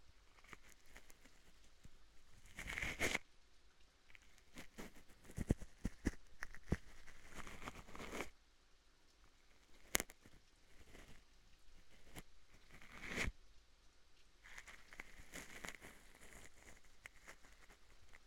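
Rain falls in a steady, soft patter, broken by scattered sharper drips and taps that come and go. It stays fairly quiet throughout, with no voices.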